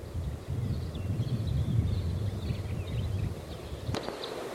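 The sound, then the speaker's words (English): Steady wind rumbles and rushes beside side road E24, with a continuous wash of a stream flowing in the background. Faint bird chirps flicker above, and a sharp click lands near the end. “It's windy and there's a stream in the background.”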